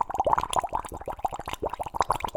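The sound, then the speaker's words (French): Rapid, continuous bubbling of water through a straw into a glass: a dense stream of gurgling plops with an irregular rhythm and no voices. “ensuite le son de bulles d'eau réalisées avec une paille dans un verre.”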